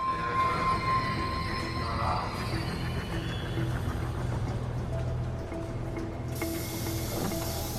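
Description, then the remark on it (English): A commuter train pulls into a station platform with a steady low rumble and a thin metallic squeal that fades, ending in a burst of hissing air. People wait to get on and off while faint voices murmur in the background. “They go about their normal daily commuter business, some reading, some waiting to get on and off the newly arrived train.”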